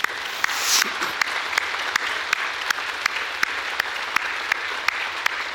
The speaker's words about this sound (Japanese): ですから主イエス・キリスト様に感謝、お父様に感謝、そして主に栄光をお返ししたいと思います。しばらく拍手を持って感謝しましょう。